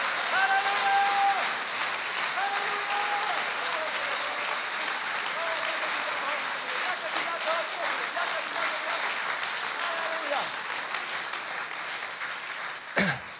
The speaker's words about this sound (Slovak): Dajme mu ještě potlesk.